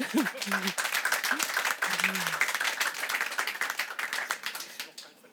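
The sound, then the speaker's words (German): Audience applause for journalist Ralf Schuler, dense, steady clapping from many hands, loud, thinning out toward the end, with brief voices murmuring underneath at the start. “Das ist Ihr Applaus, Herr Schuler.”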